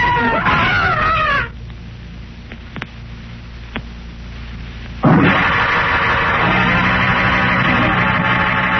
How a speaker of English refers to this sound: Bobby's terrifying screams brings Tarzan hurriedly to the scene.